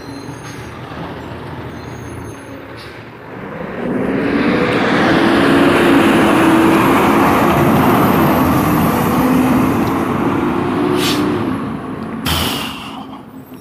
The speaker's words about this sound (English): Oh, Christ. Trash truck.